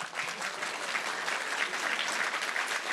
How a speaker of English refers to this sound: Bonsoir à tous, bonjour à tous, applaudissements.